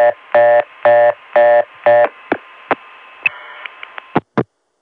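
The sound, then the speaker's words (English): A telephone trunk on a Dimension system times out after 49 seconds of reorder and hangs up: four buzzy reorder beeps give way to a string of sharp switching clicks and a short tone over faint line hiss, then the line goes silent. The tone plant is Crossbar 5. “That's because the originating register times out and normally would put the line back to dial tone. But the dimension catches that and sends a signal back to the ContelNet, which hangs up on us.”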